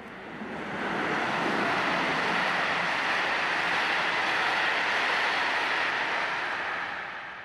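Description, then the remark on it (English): A steady, dense rumbling roar of a train at a railway station in Sweden with commuters, as the short day gives way to night, fading in at the start and easing off at the end, with no voices. “So what hope of relief is there for these commuters at a railway station as the short Swedish day rapidly gives way to night?”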